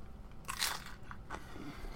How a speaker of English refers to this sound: Yes, anyways, I'm recording now, so at the request of our contestants, they want the audience to hear me eating food, so that's what we're going to hear for a little bit. I hope you enjoy this.